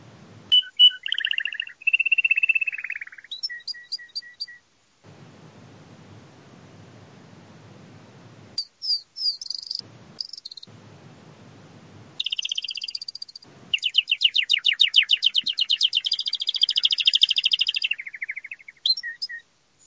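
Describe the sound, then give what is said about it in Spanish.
A domestic canary sings in bright, loud bursts of rapid trills and chirps, broken up by pauses and stretches of low rumbling hiss before a long, fast trilling phrase. “Sí, Antonio acertado, es un canario, ¿vale? Es una estrofa que he puesto de un canario”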